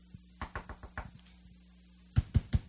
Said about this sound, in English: Knock. You ever go to somebody's house and you know they're home? You can hear them talking inside, you know, but they're not hearing you knock, what you go through.